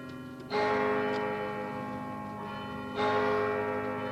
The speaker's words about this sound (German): Die Kirchenglocke schlägt 10.